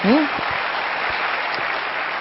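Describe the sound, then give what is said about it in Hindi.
Steady audience applause for the mothers fills the whole stretch, a dense wash of many hands clapping at even loudness, with a brief voice fragment at the very start. “भाई हमारी माताओं के लिए जोरदार तालियां तो बजाइए।”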